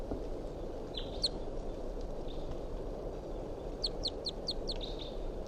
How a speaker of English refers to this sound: That wild bird's out of sight now.